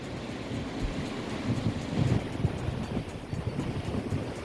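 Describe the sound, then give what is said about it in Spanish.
A steady, powerful roar of the swollen Manzanares river in flood at the Colonia del Manzanares in Madrid fills the whole clip, dense and continuous with low rumbling surges and gusty wind buffeting the microphone, with no voices present. “Así suena, ¿eh?, ese caudal a esta altura en la colonia del Manzanares, una crecida que muchos madrileños y vecinos del barrio”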